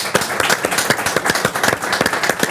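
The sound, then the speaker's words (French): Audience applause, a steady patter of many hands clapping at a lively, uneven rhythm for a few seconds, fairly loud throughout with no voices over it. “Eh ben, on peut l'applaudir, merci beaucoup.”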